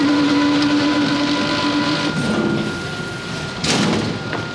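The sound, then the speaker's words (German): Loud, continuous machinery in the huge production hall of a large industrial bakery in a business park, with baking trays banging together and a huge bread-roll machine turning out 9,000 dough pieces an hour: a steady mechanical drone with sustained humming tones, broken by two sharp hissing, clattering bursts toward the end. No one speaks. “Und die produzieren in einer riesigen Produktionshalle im Gewerbegebiet und da klingt es ehrlich gesagt eher wie in einer Autowerkstatt.”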